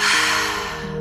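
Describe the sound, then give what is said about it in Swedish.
A single slow breath exhaled through the mouth after briefly holding it, during a relaxation breathing exercise, airy, softening as it trails off over about a second, with a faint steady tone humming underneath. “Håll andan ett litet tag. Och andas ut genom munnen.”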